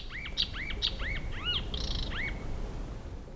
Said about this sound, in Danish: Ja, her skulle der egentlig have været lidt lyd fra retrætegudstjenesten, men et eller andet skete med optageren, så i stedet så blev det et genhør med nattergalen, der sang i sommer.